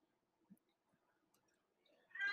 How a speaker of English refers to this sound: Okay, sorry. I'm adjusting to this cat, you guys.